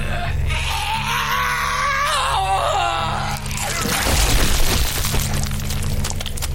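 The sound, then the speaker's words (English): A man's thin, wavering, exhausted wail rises and falls for a few seconds over a low steady hum, then gives way to a loud burst of cracking, breaking noise as his body breaks, fading into rough rumble. “Somewhere between the mewling wail of an animal desperate for rescue and the cry a baby makes when it's in between sobs and so exhausted it can barely find the strength to scream anymore.”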